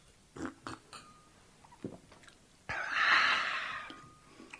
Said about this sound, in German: Und der Herr Bürgermeister? Der wickelt genüsslich ein belegtes Käsebrötchen aus, gießt sich ein Glas von Bibis Hexentrunk ein, mampft und trinkt.